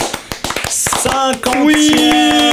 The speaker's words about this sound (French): Et à tous et bienvenue dans ce 50e, déjà 50e, on peut déjà s'applaudir.